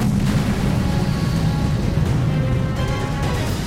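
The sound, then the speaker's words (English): A deep, sustained roar as a volcano's north flank blows out in an eruption explosion heard up to 300 miles away, with heavy low-end rumble and crackling bursts, loud and continuous throughout, with no voices. “For at that moment, without warning, the north flank of the volcano simply blew out in a shattering explosion heard up to 300 miles away.”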